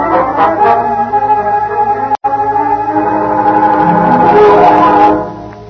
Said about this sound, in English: Hey, there's a fire. Here comes the engine.